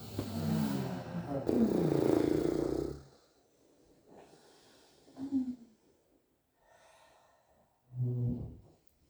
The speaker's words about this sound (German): tief ein, tief in den Bauch und aus mit einem Geräusch eurer Wahl. Das machen wir noch zweimal. Atmet ein. Das müssen keine schönen Geräusche sein. Noch ein letztes Mal, atmet ein.